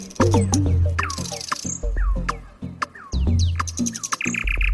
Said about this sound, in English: like the nightingale, a bird that sings out in the dark.